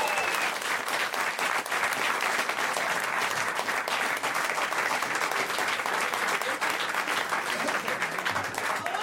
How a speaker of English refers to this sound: Everybody, please, a giant round of applause for Bert Kreischer and Andy Kindler. Let them hear it.